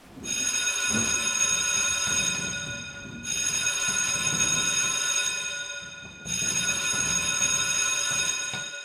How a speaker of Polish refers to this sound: Szkoła się pali! Nie będzie szkoły! Uwaga, alarm!